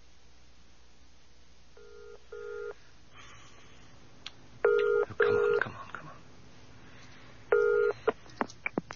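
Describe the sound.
The telephone number of the Islay Hotel is dialed on a touch-tone keypad: five clear, steady beeps in irregular bursts. The later tones are louder, with a man muttering impatiently and small clicks in between.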